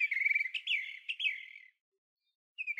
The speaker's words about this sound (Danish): Fuglen er glad for endelig at have fundet fjeren. Den synger en glad sang og siger farvel til Geo.